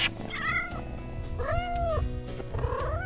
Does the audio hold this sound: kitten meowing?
yes